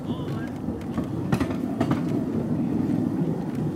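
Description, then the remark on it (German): A small railway train rattles steadily along the track, its continuous low rumble broken by irregular metallic clacks and knocks from the wheels and rails. “Hier fährt man runter und weiß, da war mal ein Graben.”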